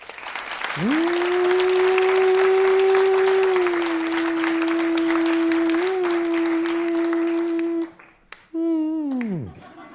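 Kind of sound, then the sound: crowd, audience applause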